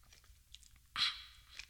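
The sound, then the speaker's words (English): A single quick sip of a drink: a short, bright slurping burst about a second in, fading into quiet mouth noises with no talking. “What's the Tea segment after I take a sip.”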